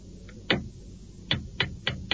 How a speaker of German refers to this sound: Da müssen wir jetzt hier noch das Lenkrad erst aufsetzen. Moment. Da müssen wir das ein bisschen feilen noch. Dass der gerade weg ist. So. Und jetzt klopfen wir das Lenkrad auf diese Welle.